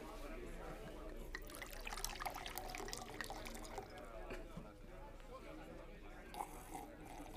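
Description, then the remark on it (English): A mixed drink of gin and dry vermouth is poured into a glass, a steady liquid trickle and splash lasting several seconds, with faint background murmur and noise underneath. “Fix something for me, will ya? Anything in particular? Whatever you want, sister. Just pour it.”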